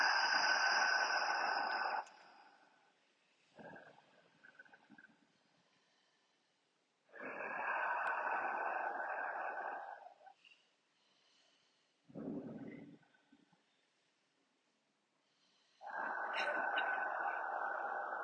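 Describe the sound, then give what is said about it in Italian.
Slow, deep breathing during a hand exercise of touching the thumb to the ring finger: a handful of long, airy inhales and exhales separated by quiet pauses, steady and unhurried, with no talking. “Respiriamo sopra.”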